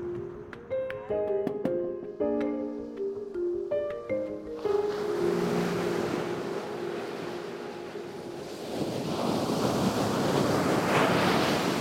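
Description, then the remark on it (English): A few plucked melodic notes give way to the steady roar of ocean waves breaking on the undeveloped shore of Canaveral National Seashore, 24 miles of coast, with wind noise, the surf swelling louder toward the end. “I decided to come here to Canaveral National Seashore because I wanted to see for myself how sea turtles are faring.”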